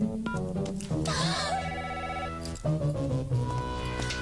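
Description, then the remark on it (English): A telephone rings loudly, its bright warbling tone repeating over a busy musical background for about four seconds, with no one speaking. “Aren't we getting a little old for prank phone calls?”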